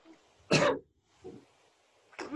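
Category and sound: human body sound, coughing and throat clearing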